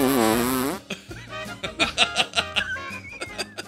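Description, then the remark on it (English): A long, buzzy fart noise with a wobbling pitch, followed by a rapid string of short, sputtering fart bursts in quick rhythm, fairly loud. “And just start farting.”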